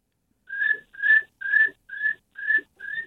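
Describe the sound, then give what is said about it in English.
A person imitates a cricket by whistling six short, evenly spaced chirps, each a steady mid-high tone of similar loudness, repeated about twice a second with no talking. “saying that I can do the cricket noise.”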